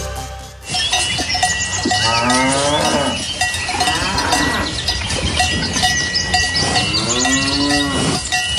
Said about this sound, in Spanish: Lo que estamos escuchando ahora mismo es el sonido de vacas pastando en el norte de España. Escuchamos los cencerros, se pueden intuir de fondo también las pisadas en el suelo y, por supuesto, los mugidos.